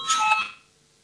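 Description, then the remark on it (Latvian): A brief electronic bell or chime rings out clearly for about half a second, bright metallic tones that fade quickly into a faint hum. It is the voting bell in a sitting of the Saeima, Latvia's parliament, rung before a vote on a committee proposal. No one speaks. “Lūdzu zvanu, balsosim par 15. atbildīgās komisijas priekšlikumu.”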